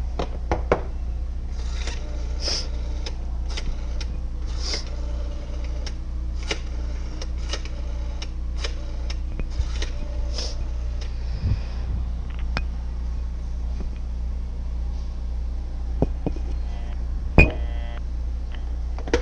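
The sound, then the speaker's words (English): A phone being dialed: a string of sharp clicks and ticks at an uneven pace over a low steady hum, ending with a short electronic busy-signal tone burst because the line was busy. No one speaks. “As you know, it was busy.”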